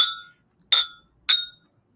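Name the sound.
glasses clinking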